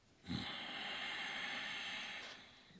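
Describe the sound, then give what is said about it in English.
A long, deep breath drawn in, a steady airy rush lasting over two seconds after a brief low sniff at the start, with no talking. “It's breathing. Take my tip. It's a well-known fact. Breathe in.”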